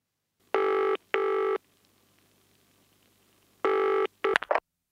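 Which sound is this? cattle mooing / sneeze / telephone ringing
telephone ringing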